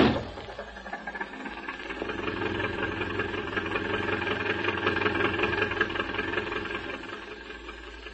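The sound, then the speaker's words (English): The counterfeiter's racing car engine runs steadily as it is driven back to town, at a constant rumbling pitch, a dense mechanical drone with buzzy overtones that holds level throughout, with no voices. “And if you can drive that racing car back to town, I'll have these two scalawags and the hoosh cow in no time.”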